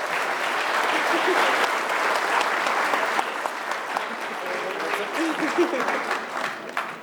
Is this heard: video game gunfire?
no